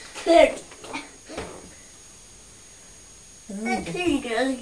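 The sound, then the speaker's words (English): A female pet growls in short, wavering bursts, then lets out a longer, louder rumbling growl, with a couple of sharp spitting hisses mixed in. “It's a very big growl, that, isn't it? She's spitting as well.”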